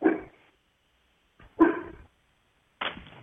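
A dog being looked after by a dog-sitter lets out three sharp, separate barks about a second apart, each loud with a quick fade, and no one talking in between.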